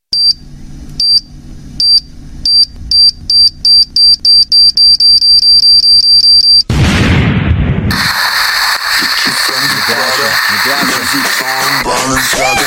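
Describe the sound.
A run of rapid electronic beeps gives way to a sudden loud whoosh, then a steady hissing dry ice smoke effect that continues while people talk over it.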